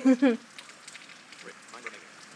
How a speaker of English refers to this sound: So anyway, that's the rain, again.